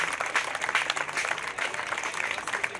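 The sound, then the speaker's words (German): A crowd applauds steadily, a dense wash of many hands clapping at once with no individual claps standing out, sustained at an even level throughout. “Ja, jetzt hast du deinen Applaus schon bekommen.”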